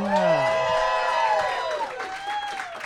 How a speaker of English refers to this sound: And those applause right there, we are live at the G-Man Tavern in Chicago.